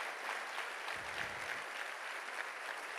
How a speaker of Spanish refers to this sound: Dale un fuerte aplauso a Dios, dale, glorifícalo.